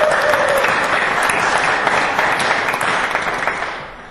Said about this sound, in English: Any of you that helped at Vacation Bible School in any way, please put your hands up. Everybody give them a big round of applause.